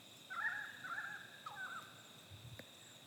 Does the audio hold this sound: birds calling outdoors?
yes